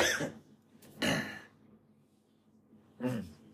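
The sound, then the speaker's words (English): Three short, raspy coughs with quiet pauses between them, the second the loudest and the last a rougher, throaty bark, from a man who has been coughing every day. No one speaks. “I'm genuinely concerned for him, though, because he has been coughing, like, every fucking day.”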